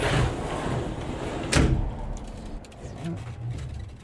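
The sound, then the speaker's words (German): A sliding door on the wardrobe-sized swap container on rollers of an Onomotion Ono cargo bike, which has sliding doors on both sides, rolls along with a rushing scrape, then shuts with a single sharp thud, followed by a quieter low rumble of background noise. “Auf der Ladefläche ein Wechselcontainer auf Rollen, groß wie ein Kleiderschrank, Schiebetüren auf beiden Seiten.”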